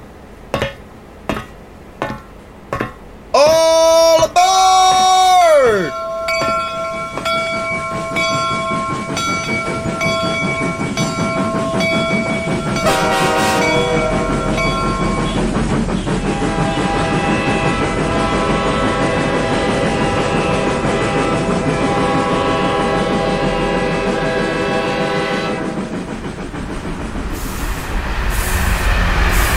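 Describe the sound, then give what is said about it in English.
A steam train with 75 people on board pulls away: a few sharp chuffs, then a loud, falling two-tone whistle, followed by a long, steady rumble and hiss as the engine gathers pace, with a bright hiss near the end. “Keep the steam high.”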